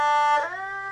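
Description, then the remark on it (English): A sustained violin note that smoothly slides in pitch midway, gliding from one steady tone to another and holding it, moderately loud with no voices. “So this is where the glissando comes from.”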